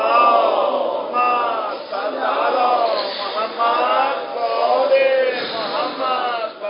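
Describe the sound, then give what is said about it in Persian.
A large audience chants salawat together in unison, answering a preacher's call during a religious talk on the eve of Eid, many voices blending into a loud, continuous wave of rising and falling phrases for several seconds. “دوتا روایت بخونم ردشم، یه سلامات بفرستین.”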